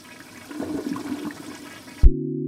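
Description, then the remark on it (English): A toilet flushes with a broad rushing, gurgling swirl of water for about two seconds, then cuts off abruptly into a steady low droning tone. “Like, the one that comes to mind most, that I find most boggling, but I use every day, is the toilet.”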